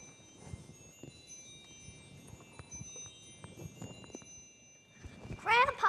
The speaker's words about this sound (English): Grandpapa, did you hear those beautiful, beautiful bells?